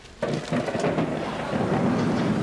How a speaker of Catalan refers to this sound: Per exemple, jo ara penso que m'agradaria que es posés a ploure. I seria guai que de sobte es posés a ploure.